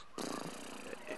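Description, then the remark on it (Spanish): A person imitates a horse's neigh through a horse animoji during a keynote presentation, a loud, wavering voiced whinny lasting about a second after a brief silence. “Y está relinchando con un caballo.”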